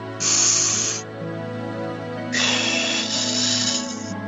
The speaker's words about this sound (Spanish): Empezamos por los pies, hagamos tres respiraciones así de ola, que nos vaya hasta la cabeza la respiración.